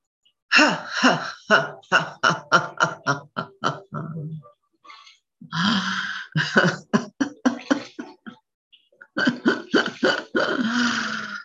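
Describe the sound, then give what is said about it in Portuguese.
Three runs of short, hiccup-like breaths slowly pushed out from the abdomen and diaphragm in staccato bursts during a breathing exercise, each run a string of quick pulses with grunting, voiced edges, separated by brief pauses. Fairly loud. “Inspira e solta devagarinho no soluço.”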